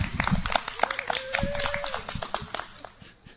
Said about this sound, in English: Always good to get a few woo-woos in there with the clapping.